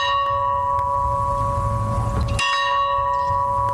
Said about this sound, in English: A farm bell outside his boyhood home rang 39 times in honor of his presidency.